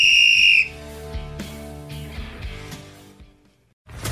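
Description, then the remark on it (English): One loud, shrill whistle blast lasting about half a second, followed by softer lingering tones and light knocks that fade toward silence. “Whistle. Oh, whistle.”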